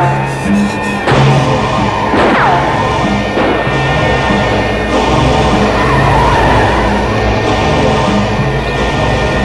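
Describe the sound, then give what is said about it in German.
A car roars at speed with a loud, steady engine, tires squealing sharply a couple of times as it swerves into a parking garage. No voices. “In rasender Fahrt ging es ins Parkhaus hinein.”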